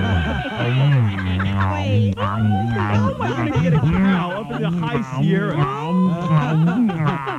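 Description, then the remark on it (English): A cow moos in long, low, wavering calls, loud, one drawn-out bellow after another filling the whole stretch with little pause between them. “I think I'll have a cow.”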